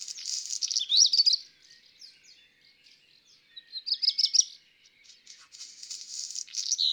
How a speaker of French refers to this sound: Il y avait le rouge-queue sur la cheminée, avec son bruit de papier froissé.